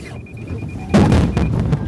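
A Lexus 600 gas-electric hybrid's collision warning alarm, driven by its onboard radar and cameras, sounds as a quick run of high-pitched beeps over a low rumble just before the car crashes into a wall of cardboard boxes in a demonstration; then a sudden loud, noisy burst takes over and the beeping fades under it.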